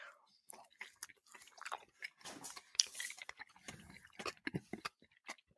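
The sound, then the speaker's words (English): Crunchy chewing of a sprinkle-topped snack with white chocolatey frosting, a rapid series of sharp, crackly bites and munches that go on steadily for several seconds with no talking. “Little sprinkles are crunchy.”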